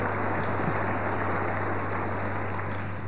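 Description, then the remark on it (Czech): An audience applauds steadily, a dense wash of many hands clapping at once that holds an even, fairly loud level throughout, with a low steady hum beneath it and no voices. The applause is for attendees in business less than six months who have stood up. “Super, výborně, velký potlesk pro všechny.”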